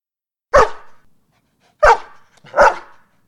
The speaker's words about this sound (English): He thinks it's Mr. Harvey, but it's a dog. Stephen knows the dog. It's okay. It's Fluffy, Mrs. Marsden's dog.